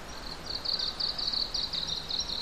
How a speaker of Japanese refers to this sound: 鳥はもう朝早くからずっとおしゃべり。